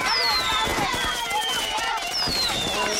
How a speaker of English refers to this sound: Progressive asks, what do a slow Friday night, bored teenage boys, I'm bored, a pack of fireworks, this is gonna be awesome, and a teetering branch suspended over your car have in common? Look out!